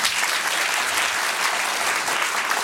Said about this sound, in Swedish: En applåd.